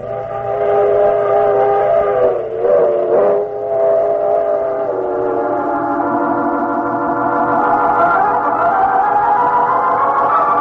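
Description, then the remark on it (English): A train rumbles steadily along while a loud, sustained whistle sounds throughout, its chord-like tone dipping briefly and then rising and swelling again toward the end. No voices are heard. “Alec Ransom, what are you doing on this train?”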